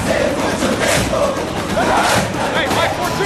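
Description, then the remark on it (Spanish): A large stadium crowd roars and cheers in a dense, continuous wall of shouting voices, loud and steady throughout with no pauses. “Hay diferentes maneras de ir a un estadio.”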